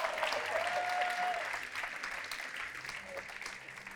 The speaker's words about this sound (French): Applaudissez encore juste 10 secondes, le temps que je décide que je coupe.